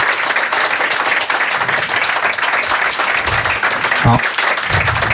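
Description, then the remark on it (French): A crowd applauds a drummer steadily throughout, a dense, loud wash of many hands clapping at once, with a brief voice rising through it near the end. “On peut l'applaudir, oui, on peut, hein, je crois.”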